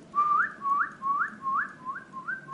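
A person whistles a soft, repeated rising tone to relax a horse while it urinates: six short upward-sliding notes in a steady rhythm, each starting low and gliding higher, with no talking.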